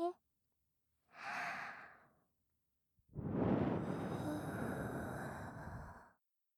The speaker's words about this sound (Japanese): 吐息の吹きかけは反則？そんなルールありません。